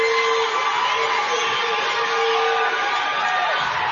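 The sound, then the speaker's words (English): A large crowd, on its feet after a long back-and-forth rally, cheers and roars without a break for the efforts of both teams, a dense, steady wash of voices that holds at an even, fairly loud level for the whole stretch. “And that brings the crowd to their feet.”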